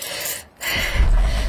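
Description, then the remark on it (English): A car engine, being started to warm the car up, cranks with a harsh, noisy whirr, pauses briefly, then catches and settles into a deep, steady rumble, fairly loud, with no talking. “Now, please, now.”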